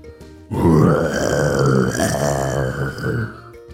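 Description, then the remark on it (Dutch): A person imitates a European brown bear, one long, deep, rumbling roar of about three seconds that starts abruptly, stays loud and rough throughout, and then cuts off. “Want dit is de Europese bruine beer.”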